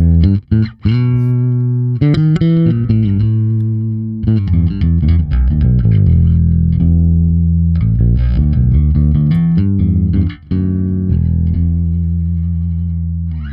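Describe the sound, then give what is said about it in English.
A bass guitar run through an SVT amp simulator plugin plays a continuous riff of punchy low notes with a gritty, fizzy distorted top end. It stays loud throughout, with brief pauses between phrases and no talking. “The treble is getting that sort of fizzy, ampeggy sound going on there.”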